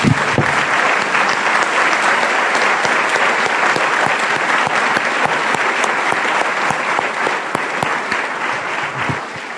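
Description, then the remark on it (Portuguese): Sustained, loud applause from a crowd applauding Jesus, a dense steady clatter of many hands clapping for nearly ten seconds, tapering slightly at the end with no talking over it. “Podemos aplaudir a Jesus Supremo?”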